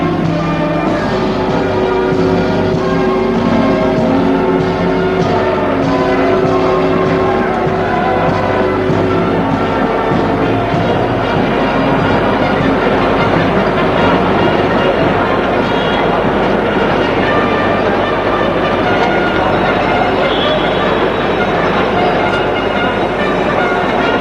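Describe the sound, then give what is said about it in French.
A train station with a train rolling through: a loud, steady mechanical rumble with ringing metallic tones layered on top, holding constant for the whole stretch without voices. “Il est l'heure que je prenne le train. Et nous, ils vont rentrer dans la gare.”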